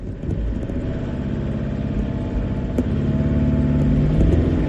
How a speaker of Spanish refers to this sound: Ahí está a tope el motor y nada, pues le sacamos. Oye, funcionó.